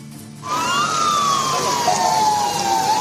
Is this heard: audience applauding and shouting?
no